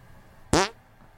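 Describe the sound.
A single short, loud, flappy fart noise squeezed out by hand, sputtering for about a quarter second before cutting off into quiet.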